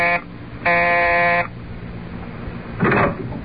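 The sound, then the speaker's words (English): A harsh electric doorbell buzzer, the bell marked Staley, landlord, at a brownstone house, pressed by a reporter, sounds three times: a brief blip, then a loud, steady buzz lasting about a second, and after a pause a shorter, rougher final buzz. “But let us return to the present, and reporter Luke Harvey pressing the bell marked Staley, landlord, in his brownstone house.”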